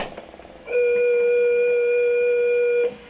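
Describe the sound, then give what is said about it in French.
A miniature electric organ, played by someone practicing, sounds one steady, reedy note, held loud and unwavering for about two seconds before cutting off, with no voices present. “Revenons en ville, où un futur virtuose s'exerce sur un orgue électrique miniature.”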